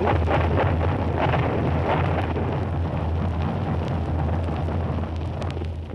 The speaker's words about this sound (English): His drone goes louder. Here come the bombs now. Listen to them. They've fallen in the harbour. In the harbour.